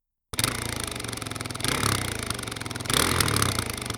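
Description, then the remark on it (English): Dirt bike engines (Yamahas and Kawasakis) roar to life abruptly as the motorcycles are started, keeping up a loud, sputtering rumble and revving harder twice in quick surges, with no voices. “Human controllers were firing up the motorcycles. I could hear the sputtering roar of the engines.”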